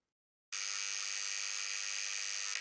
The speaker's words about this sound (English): We both jumped at the sound of the buzzer going off.